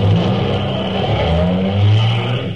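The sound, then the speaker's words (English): A brand new Cadillac sedan's engine revs loudly and continuously on a New Orleans street corner, its deep throaty rumble climbing and dipping in pitch over a couple of seconds, with no voices. “How do you like that power?”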